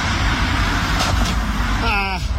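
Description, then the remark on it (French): A DeLorean car rumbles steadily as it strikes a man riding a bicycle in the canton of Vaud, Switzerland, with a couple of soft knocks in the middle, then a short startled vocal exclamation near the end from the person filming. “C'est le monsieur qui s'est pris une DeLorean en faisant du vélo dans le canton de Vaud.”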